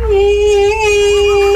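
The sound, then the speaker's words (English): A sustained, eerie wailing tone glides slowly up and down with a thin whistling overtone above it, loud and continuous over a low rumble: a ghost sound effect. “I just looked up ghost sound effect on YouTube.”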